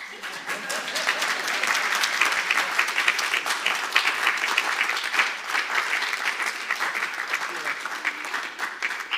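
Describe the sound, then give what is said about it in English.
Sustained applause from a sizable audience, a dense crackle of many hands clapping at once, steady and fairly loud throughout without fading, with no voices rising above it. “Give a clap to us.”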